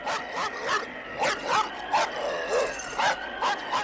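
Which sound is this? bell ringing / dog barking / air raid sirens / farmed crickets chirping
dog barking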